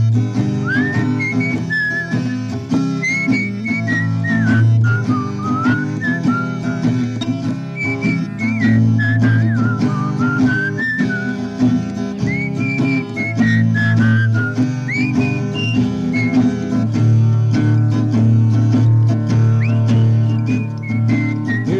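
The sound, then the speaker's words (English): A whistled melody with gliding, wavering notes rides on top of full, steady backing music, continuing prominently throughout without any talking. “Maybe you should whistle at this part here.”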